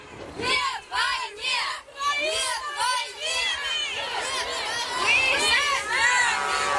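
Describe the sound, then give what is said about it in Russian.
A crowd of many voices shouting and chanting together at a rally of Crimean women in Simferopol against the annexation of the peninsula, loud, with overlapping high-pitched cries and rhythmic bursts of collective yelling throughout. “Запись, сделанная 7 лет назад в Симферополе во время митинга женщин Крыма против аннексии полуострова.”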